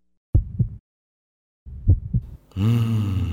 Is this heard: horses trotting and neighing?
no